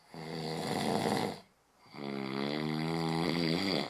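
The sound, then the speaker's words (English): Two loud, drawn-out snores, each a rattling, buzzing inhale lasting over a second, separated by a brief quiet pause. No one speaks. “treating snoring successfully comes from first figuring out what causes it, person by person.”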